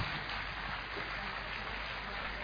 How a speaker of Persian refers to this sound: همه دوستان فرصتجو و حامی رو تشویق کنیم.